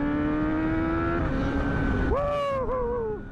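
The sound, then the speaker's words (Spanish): Loud motorcycle engines on a winding, curvy route, droning steadily, then revving sharply to a higher pitch, dipping briefly and surging again before the sound fades away as they pass. No one speaks. “Pero los moteros aseguran que esta ruta llena de curvas es más segura, favorece el desempeño de las motos y les permite sacar toda su potencia y velocidad.”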